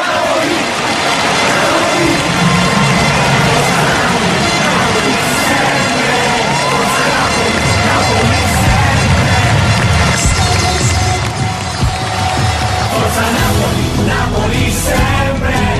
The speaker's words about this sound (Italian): Sento da lontano il grido della gente. Forza Napoli, Napoli sempre.